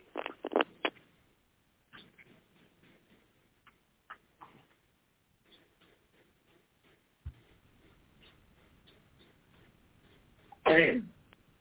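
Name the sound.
woman sneezing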